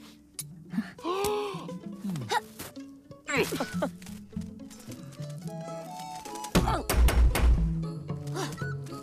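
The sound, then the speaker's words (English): A few heavy, hollow thunks from the door knocker of a human house, hit by Robin as she flies to the door, strike in quick succession near the end, following stretches of wavering, moaning vocal sounds. “She gives Magpie a spoon while she flies to the door and hits the knocker.”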